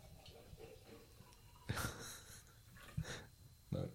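Liquid pours from a gourd in a few splashing, gurgling bursts, the longest surge near the middle and two shorter gushes after, over a faint low background hum.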